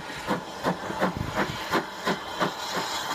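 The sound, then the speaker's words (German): A steam locomotive hisses steadily while releasing a quick, regular series of chuffing steam bursts, about three per second, with no voices, as it is being recoupled at a railway station. “Spannender war darum fast die Umkoppelung der Lokomotive, die hier stattfand.”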